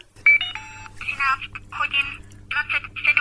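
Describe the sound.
A short electronic beep, then the small synthetic voice of a talking watch reads out the time in clipped, robotic bursts, fairly clear.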